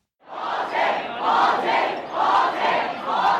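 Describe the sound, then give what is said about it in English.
A large crowd of protesters in Hong Kong, coming up from Admiralty subway station, shouts "shame, shame" in unison, a loud, rhythmic chant repeated over and over at a steady pace, many voices merging into a dense roar. “Shouts of shame, shame as we came up the steps.”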